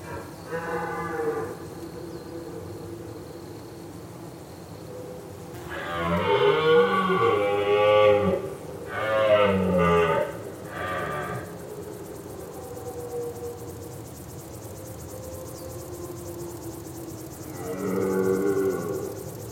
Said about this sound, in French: Les cerfs, eux, ils brament quand il y a vraiment le brame, quand il y a le rut. Mais autrement, on ne les entend pas. Hein. On ne les entend pas jamais. C'est l'automne, au mois d'octobre. La nuit, c'est impressionnant. Ça résonne.